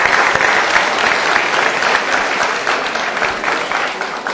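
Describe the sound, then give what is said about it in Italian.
A steady burst of audience applause for the exhibition of the artist Amaro della Quercia, many hands clapping densely and evenly for several seconds, loud and sustained without any voices standing out. “Io credo che un applauso per la sua mostra gli si può fare al nostro Amaro.”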